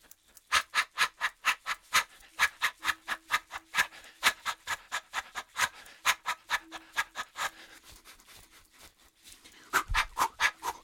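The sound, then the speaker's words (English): A voice imitates animal sounds while shaking the body, with rapid, rhythmic huffing bursts, about four per second, like a gobbling or panting creature. The pulses continue steadily, falter briefly near the end, then resume. “So I'm making sounds, just ordinary sounds, animal sounds, as I'm shaking the body.”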